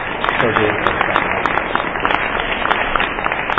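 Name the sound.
round of applause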